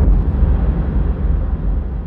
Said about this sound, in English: The rumble was the first signifier of change. A violent shake of the floor that could no way have been mistaken for the train cars rocking, followed quickly by the thunderous sound of a boom.